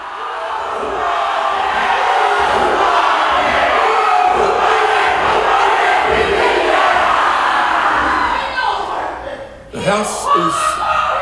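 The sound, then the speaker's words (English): A Maori haka performed by a small group of members on the floor of New Zealand's parliament, in protest of a bill to redefine the country's founding treaty with the Maori people: loud, rhythmic shouting with steady pulsing beats and a roar of crowd noise, ending abruptly as other voices take over. “You know, late last year, drama unfolded in New Zealand's parliament after a small group of its members participated in a haka, a traditional Maori dance on the floor.”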